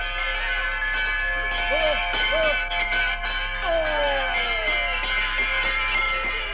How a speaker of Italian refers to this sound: Che musica è mai questa? Non certo di rustici campanacci di ferro. Sono autentiche campane di bronzo, fuse in Svizzera con le sette note musicali.